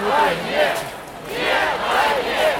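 A large crowd at a funeral chants in unison, "No to the war" and "We're not afraid", voices rising and falling in a steady two-beat rhythm, loud and continuous with no single voice standing out.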